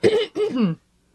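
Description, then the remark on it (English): A person clears their throat in two quick, rough, voiced bursts, fairly loud, followed by silence. No one speaks. “Let me clear my throat.”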